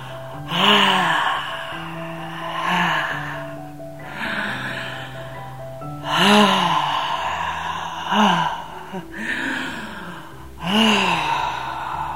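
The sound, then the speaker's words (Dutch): Deep, rhythmic breaths during a breathing exercise repeat about every two seconds, roughly six in all, each exhale an audible sigh with a faint voiced edge, over a soft steady background drone. “En verbinden nu ons ademhaling ermee. Het geluid van je ademhaling, het geluid van je yoni, het geluid van de kracht die zij met zich meebrengt.”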